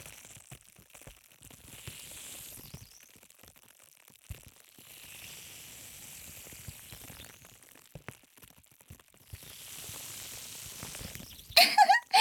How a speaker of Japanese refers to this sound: 炭酸水ですわ。動かないで、先生。 お洋服が濡れてしまいますわ。